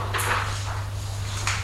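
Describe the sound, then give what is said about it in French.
The door of room number 5 is opened: a short scraping, rattling burst, then a brief click about a second later, all over a steady low electrical hum. “Ouvre la porte.”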